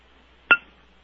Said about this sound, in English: she does ring her angel bell